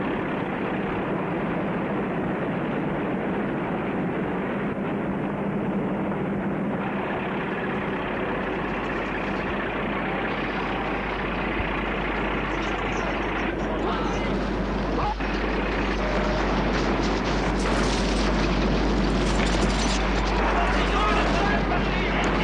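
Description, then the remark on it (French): A battle scene in Ukraine with enemy army aircraft: a constant, heavy roar of engines over a deep low rumble that swells toward the end, with a few brief, sharp bursts cutting through the din. “Plus il avance dans l'Ukraine, plus la bataille gronde. Il y a l'armée ennemie avec ses avions.”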